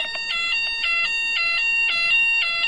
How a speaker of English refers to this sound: There's a fire alarm again. Hang on.